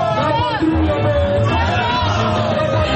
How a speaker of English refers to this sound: The crowd could be heard singing Our Homeland or Death, a motto from Burkina's revolutionary figure and former president, Thomas Sankara.